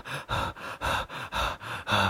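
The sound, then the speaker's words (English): A voice imitates breathing speeding up under stress: about eight quick, even in-and-out panting huffs in a steady rhythm, fairly loud, with no talking. “Your breathing goes up.”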